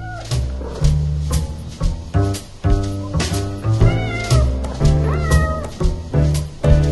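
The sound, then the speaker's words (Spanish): Several drawn-out cat meows ring out over a bouncy, upbeat music track with steady bass, the meows rising and falling in pitch and sitting fairly loud in the mix. “Un gato caminaba, muy seguro de sí mismo, por las calles y tejados, viendo a todos hacia abajo, presumiendo a los demás su estupenda habilidad.”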